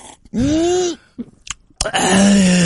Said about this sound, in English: Speaking of, let me take a sip of my... Here it comes. Gotta get that coffee.